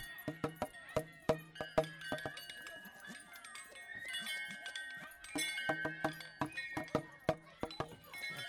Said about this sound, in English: We've got the little boy on the on the little bells. Well, they're made out of scaffolding tongs. Okay. As you may be able to see. And long, long ago, my daughter cut all those up.